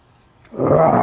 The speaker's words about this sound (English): Roar! Remember the lion says roar.